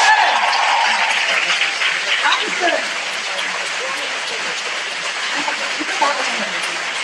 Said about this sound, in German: Danke für euren Mut und einen Applaus.